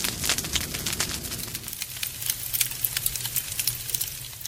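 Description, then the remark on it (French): A fire crackles steadily with dense, irregular pops and snaps over a soft low rumble, moderately loud, with no voices. “Le feu aussi.”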